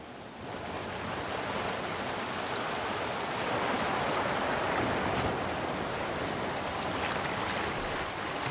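A steady, full wash of ocean surf rolls on without pause, a broad hiss of breaking waves and moving sea that fades in briefly, then holds at an even level. No voices.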